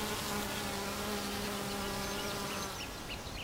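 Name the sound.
bees buzzing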